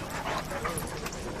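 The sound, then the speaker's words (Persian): A dog pants steadily in quick, breathy bursts, a continuous rough huffing that stays fairly even in loudness throughout, with a faint whimpery tone slipping in here and there. “برات قلاده پشمی گرفته؟”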